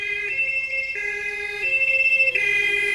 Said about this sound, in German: Das Blaulicht von der Polizei und der Feuerwehr und den Krankenwagen. Dann müssen alle Autos zur Seite gehen, damit der durchfahren kann.